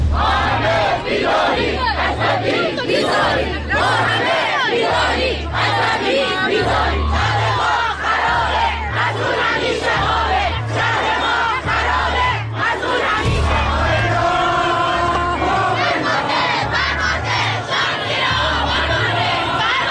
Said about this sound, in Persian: همزمان با این مراسم پرهزینه حکومتی بود که جمعی دیگر صدها کیلومتر دورتر مستعصل و عصبانی در آبادان سوگوار فریاد می زدند فرمانده، شهر زیر آوار مانده.